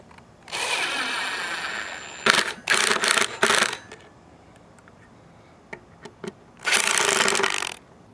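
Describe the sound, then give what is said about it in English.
Loud rasping zips of zip ties from a brand-new bag of Lowe's zip ties being ratcheted tight for a temporary setup: one long pull, a quick cluster of short pulls, a few faint clicks, then another long zip, with no talking. “Brand new bag of Lowe's zip ties.”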